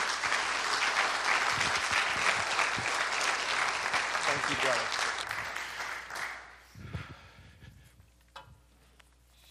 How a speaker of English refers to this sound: So if you would, please join me in a warm round of applause welcoming